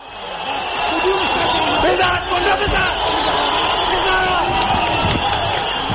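A large crowd of spectators at a sports ground in Kabul, Afghanistan, cheers and shouts continuously for their chosen athletes on the night of 12 February 2021, a dense, loud roar of many voices with excited yells rising above it, filling the whole stretch without pause.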